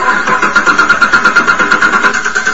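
A 2013 car engine, running on moonshine instead of gasoline, cranks over and over in a steady, rapid rhythm of whirring pulses, fairly loud, with no voices.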